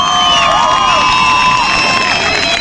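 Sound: crowd cheering and shouting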